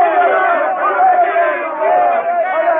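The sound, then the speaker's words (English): A crowd of men yelling and cheering together at the sighting of American ships, a loud, sustained roar, many voices overlapping with rising and falling shouts and no clear words. “I yelled as loud and as long as the rest of them.”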